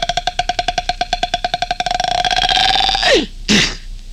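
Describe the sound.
Jonathan Winters imitates a squeaking door with his voice in a promo for NBC's Monitor: a rapid series of rasping clicks speeds up into a steady squeal, slides downward in pitch, then ends with a short, harsh burst.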